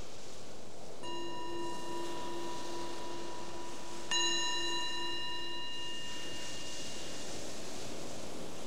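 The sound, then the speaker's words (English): A meditation bell is struck twice, about three seconds apart, each strike leaving a clear, sustained ringing tone that hangs and slowly fades against a quiet background, with no talking. “So the bell is the invitation to transition from doing to just being here.”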